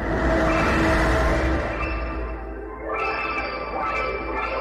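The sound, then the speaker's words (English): A sonification of the nearest black hole to us eating space dust: a dense, eerie electronic drone of layered humming tones that slowly sink, then swell and rise again, sustained and fairly loud with no voices. “It's the sound of a black hole eating space dust.”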